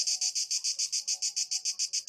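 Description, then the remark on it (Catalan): A cicada's harsh, high buzzing song, made by a rigid chitin-like plate with the abdomen acting as a resonance box, pulses rapidly and steadily, about six loud bursts per second, in hot weather, with no voices. “Hem de dir que jo duc dies mirant, bé, escoltant cigales, tots, perquè amb aquesta calorada canten a ple pulmó o a plena membrana.”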